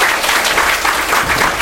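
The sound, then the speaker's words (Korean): A room full of people claps steadily, a dense, loud patter of many hands that holds at an even level without pause for the whole short stretch. “다시 한번 박수 부탁드립니다.”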